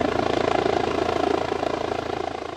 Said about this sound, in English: Our Midlands correspondent … reports now on the battle to keep the chopper in the skies and the remarkable story of some people who owe their lives to its valiant work over the last 12 months.